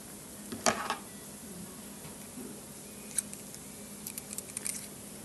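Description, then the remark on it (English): HDX brand scissors, marketed by the Home Depot, clicking and snipping, a handful of sharp metallic snaps spread irregularly over a few quiet seconds with faint hiss between them and no talking. “This is a special scissors.”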